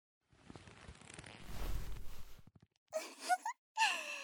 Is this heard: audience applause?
no